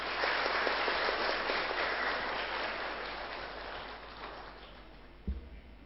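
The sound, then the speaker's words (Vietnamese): Sustained applause from an audience at a Buddhist teaching, given as a pledge of commitment, a dense wash of many hands clapping that holds steady for several seconds before tapering off, with a brief thump near the end. “Nếu quý vị thấy những nỗ lực như thế là có giá trị và đáng để làm, thì hãy dâng cao một tràng vỗ tay thật lớn để cam kết.”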